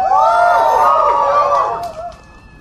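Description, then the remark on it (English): A loud burst of crowd cheering and high-pitched shrieking as slingshot Woot Monkey toys are shot into the crowd, thick and excited for about two seconds before quickly tapering off. “Let me shoot a couple Woot Monkeys into the crowd while I...”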